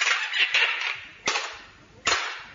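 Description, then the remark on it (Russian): A door with a newly fitted lock slams shut with sharp, loud bangs, three abrupt impacts spaced less than a second apart, over a steady hissing background noise. “Дай-ка я дверь захлопну.”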